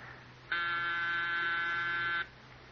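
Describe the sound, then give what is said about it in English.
A doorbell rings with one steady electric buzz lasting under two seconds, loud, even and harsh, starting and stopping abruptly over a faint background hum. No one speaks. “We can't just pretend we're out every time the bell rings.”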